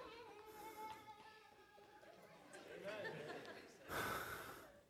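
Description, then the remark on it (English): A single sudden sneeze bursts out near the end, loud and breathy, following a few seconds of soft background murmur and faint tonal sounds. “Bless you.”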